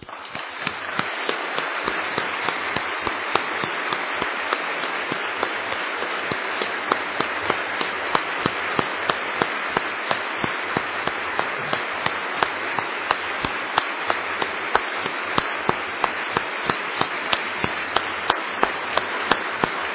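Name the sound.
audience clapping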